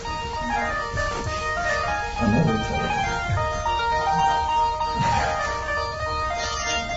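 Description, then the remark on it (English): A cell phone rings with a bright, tinkling melodic ringtone that repeats its tune steadily for several seconds, loud and without any talking over it. “No worse train of thought breaker than a cell phone.”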